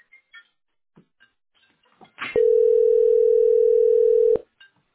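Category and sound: signal or alarm, telephone call tone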